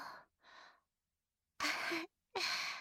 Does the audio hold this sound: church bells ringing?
no